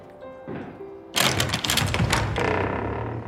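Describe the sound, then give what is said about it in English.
A large, heavy iron door knocker at the gatehouse of a large house strikes several times in quick, uneven succession, loud metallic clanks ringing out after a quieter, humming opening. “Approaching the gatehouse, there's a large iron knocker.”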